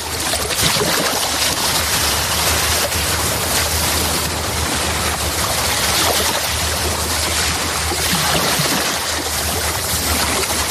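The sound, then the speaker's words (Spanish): Mediterranean sea waves at the rocky point of Cabo de Palos in Murcia, Spain, wash in with a steady, full roar of surf, a constant low rumble underneath and no distinct breaks between swells. No voices are heard. “Si te parece, cambiemos totalmente de registro y nos vamos al mar.”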